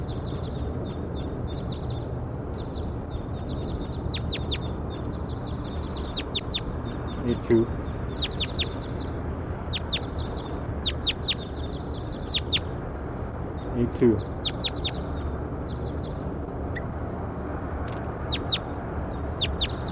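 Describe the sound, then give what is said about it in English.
Constant high-pitched bird calls, short chirps and peeps from many birds at once, over a steady low rumble, with a couple of slightly louder calls standing out now and then, recorded while pointed at bird 8-2. “Pointed at bird 8-2.”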